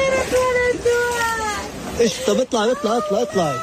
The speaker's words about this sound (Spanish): Este era el llanto de una mujer gazatí totalmente rota tras ver su tienda de campaña inundada por las fuertes lluvias